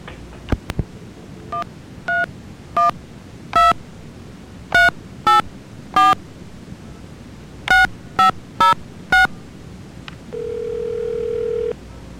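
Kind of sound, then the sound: signal or alarm, telephone keypad dialing tones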